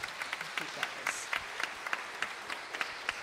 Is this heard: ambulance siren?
no